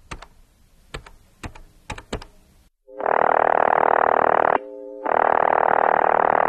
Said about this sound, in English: With trembling hands, my lanky fingers pressed out the phone number.